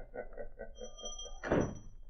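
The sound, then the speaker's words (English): A door swings shut with a solid thump, preceded by a brief high creak and a few soft, rhythmic shuffling sounds. “And shut that door.”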